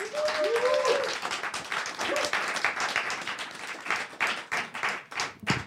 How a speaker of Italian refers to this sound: Quindi io chiamo sul palco con un applauso fortissimo